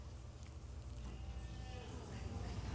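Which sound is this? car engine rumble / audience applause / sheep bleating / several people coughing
sheep bleating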